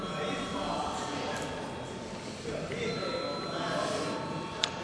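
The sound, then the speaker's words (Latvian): A continuous electric bell rings steadily for several seconds in a parliament, calling deputies to vote, a sustained metallic tone over the murmur and shuffling of many people. “Komentāru no komisijas nebūšot, lūdzu uz zvanu.”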